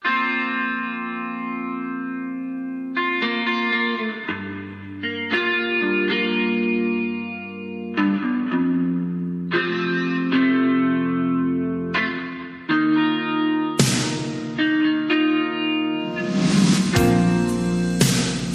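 A slow pop rock ballad intro plays alone: a chorus-drenched electric guitar rings out sustained chords that change every few seconds, growing brighter and fuller toward the end, with no voices.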